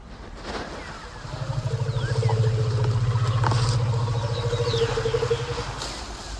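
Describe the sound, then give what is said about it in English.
A deep, throbbing low-frequency elephant rumble, one elephant communicating to another, swells in and holds steady for several seconds, its strong low vibrating tone fading away, with faint outdoor ambience behind it. “Because these rumbles, they're different than the growls that we can hear.”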